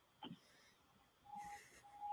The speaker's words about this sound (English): Someone's French fries are done with that beeping.